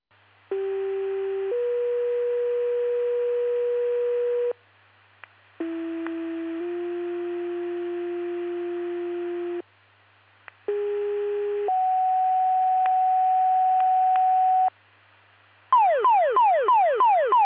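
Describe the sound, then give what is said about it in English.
Three sets of two-tone fire department pager test alert tones for Wausau Fire Department and for Utica and Overseas Fire Department, each a short high tone stepping into a long steady lower tone, followed by a rapid warbling sweep at the end; loud, clean and electronic with no talking. “attention to Wausau Fire Department, to Postal Page, testing for Wausau Fire Department, for Utica and Overseas Fire Department, please disregard the tones, reset your pagers in the test, contact fire 2000.”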